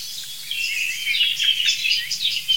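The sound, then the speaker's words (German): A song thrush singing, a steady stream of bright, high chirps and whistled phrases with no pauses, fairly loud over a faint low rumble, with no one talking. “Das ist eine wirklich leitende Singdrossel, würde ich sagen.”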